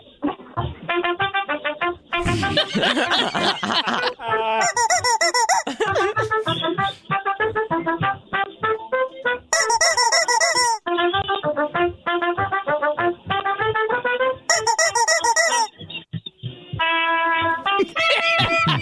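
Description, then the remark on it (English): A trumpet plays loudly and without pause, running through quick, bright notes and held tones, with a few brassy, blaring bursts standing out along the way. “Let's have some applause for the trumpet guy.”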